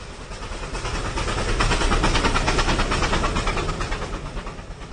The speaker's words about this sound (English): try to imagine what it was like for us when the first train steamed through Hirwaun.